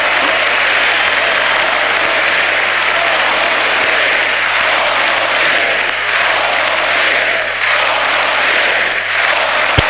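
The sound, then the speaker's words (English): A large crowd at a speech chants "four more years" over steady, dense applause and cheering, a loud continuous roar with no pauses for the full length. “This is, they're chanting forwards, 4 more years.”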